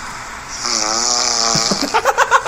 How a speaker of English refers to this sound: She snored so loud I had to sleep on the futon that's on the living room.